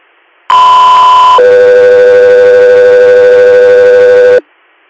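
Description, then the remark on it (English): A loud radio dispatch alert tone for the Guthrie Air medical flight crew Echo 3 Air: one steady, fairly high beep lasting about a second, then a slightly lower, steady tone held for about three seconds before cutting off abruptly. “Echo 3 Air, stand by for tone.”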